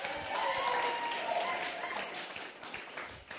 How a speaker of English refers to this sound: Why do we clap our hands when it comes to sport? To cheer them on. To make a noise. We clap our hands when our Benny McCarthy jog onto the field. Give him a hand.